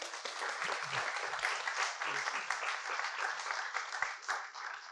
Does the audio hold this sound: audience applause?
yes